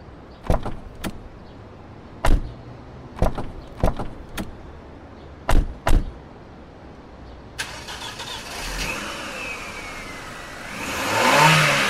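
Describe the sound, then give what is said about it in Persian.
Several car doors slam shut in quick succession, sharp, as people get into the car to leave, then an engine starts up and revs, rising in a steady roar as the vehicle pulls away. “خیلی خوب. بشینید تو ماشین بریم.”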